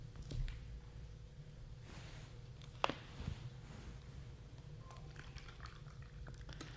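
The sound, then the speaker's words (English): Someone takes a drink of water close to the microphone, with quiet sips and swallows and one brief clink, over a low steady background hum. “Thank God for water.”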